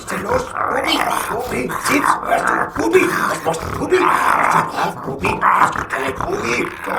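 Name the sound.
dog growling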